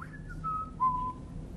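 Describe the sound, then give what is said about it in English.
Someone whistles a short, gliding run of clear notes that steps downward in pitch, moderately loud, over a low background hum with no talking. “You know, skipping along, you know, the stream hand in hand, whistling.”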